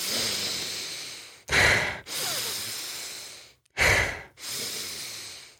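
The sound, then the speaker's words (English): Heavy, forceful breathing demonstrating cyclic hyperventilation, similar to the Wim Hof method: long drawn breaths broken by two sharp, loud inhales, repeating in a steady cycle with no talking. “And it was also compared to cyclic hyperventilation, which is similar to the Wim Hof method for any of you who may know that, but it's where you the cyclic hyperventilation is more like this.”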